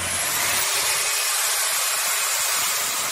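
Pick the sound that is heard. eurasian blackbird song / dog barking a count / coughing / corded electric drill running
corded electric drill running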